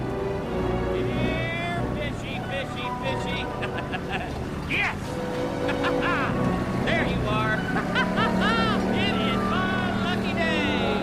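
A fishing boat's engine, started with a key and pushed to throttle while being steered, drones steadily: a loud, continuous low hum that deepens toward the end, mixed with bright warbling vocal sounds and other busy noises layered on top.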